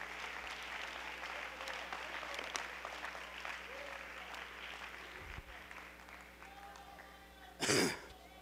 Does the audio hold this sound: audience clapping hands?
yes